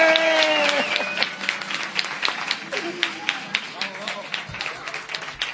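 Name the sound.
big round of applause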